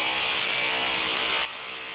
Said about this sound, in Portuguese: Só um minutinho que a gente está com uma obra aqui no escritório e eles estão furando, não consegui te ouvir.